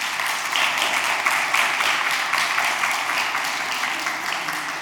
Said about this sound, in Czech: Tak a prosím potlesk pro tyhle ty statečné lidi.